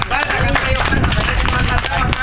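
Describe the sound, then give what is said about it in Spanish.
A crowd applauds a performer steadily and loudly throughout, dense clapping mixed with overlapping voices and cheers, filling the whole moment without a break. “Un aplauso, por favor, para el compañero. Más fuerte.”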